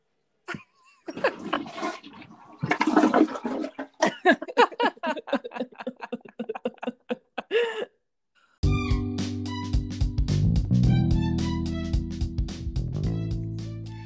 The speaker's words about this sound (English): Hang on, I have to flush the toilet.